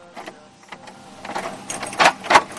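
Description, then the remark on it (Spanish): Metal bolts on the stable doors of the Madrid Municipal Police mounted squadron slide and clunk open in the morning: a run of soft scrapes and clicks that builds to two sharp, loud metallic clanks near the end, with no one speaking. “Es el ruido de los cerrojos al abrir sus cuadras, sin duda el despertador más especial que tienen en esta unidad.”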